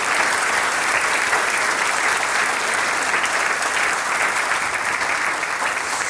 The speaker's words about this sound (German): Einen Applaus für die zwei Herren, die heute Flügelhorn spielen, sonst Trompeten, gell? Das Flügelhorn-Duo des Musikvereines Gahl.